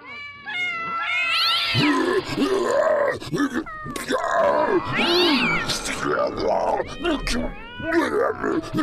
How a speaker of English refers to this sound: Have you ever seen so many cats? Alley cats, domestic cats. Where'd they all come from? And they're being led by Mr. Fluff Nugget!